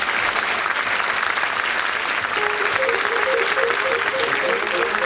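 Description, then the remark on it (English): The studio audience of the panel show Just a Minute applauds at the close of the programme in a dense, steady roar of clapping that holds its level throughout, while a faint melodic tune begins underneath about halfway through. “On behalf of our winner, very much for that applause.”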